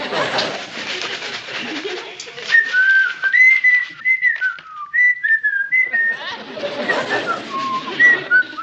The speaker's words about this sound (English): Oh, sorry about that, pal. It's okay. No, it's really inconsiderate of me to whistle while you're trying to read. I won't do it again.